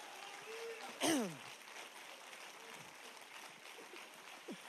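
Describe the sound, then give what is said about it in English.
Steady applause from a church audience, a dense wash of many hands clapping at once, with a brief loud whoop or whistle sliding downward near the start. “Those of you who are just clapping right now, we're clapping for two services again, right?”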